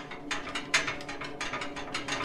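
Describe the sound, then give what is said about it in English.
An old plastic horse on springs bouncing up and down, giving a steady run of creaky, squeaking spring bursts, about four per second, at moderate volume with no voices. “I could now hear the old plastic horse on springs bouncing up and down.”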